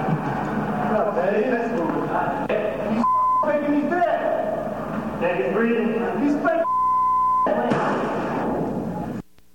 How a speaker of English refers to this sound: Okay, well, I think the beeps kind of covered up a lot of what was important there.